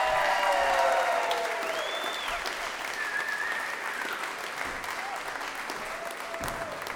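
Steady applause from an audience at a live storytelling event, welcoming the last storyteller of the night; dense clapping sustained throughout at a fairly even level, with a few faint whistles rising above it.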